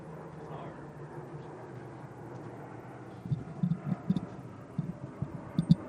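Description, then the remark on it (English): An airplane, the Griffin Express, drones overhead as a steady, broad low rumble lasting the whole stretch, moderately loud, with some faint muffled bumps and indistinct voices breaking in during the second half. “there's the plane.”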